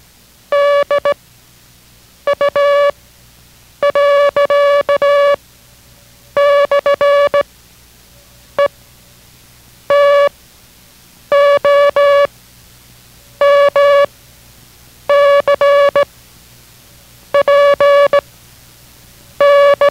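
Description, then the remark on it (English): Morse code practice text sent in reverse order, beginning with the word dog, with two improperly sent characters, tapped out as a loud, steady mid-pitched tone in clusters of short and long beeps with brief gaps between groups; no voices. “The same thing will be sent now, but in reverse order, beginning with dog and going to the left.”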